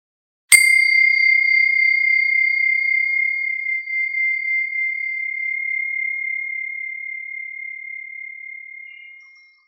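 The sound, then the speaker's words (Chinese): A single clear bell chime, rung to begin a meditation exercise called Old Well and Pebbles, strikes once and rings on with a pure, steady tone, slowly fading over several seconds until it dies away into silence. “如果你是在一个相对安静和安全的地方，当铃声响起的时候，也请慢慢地闭上眼睛。”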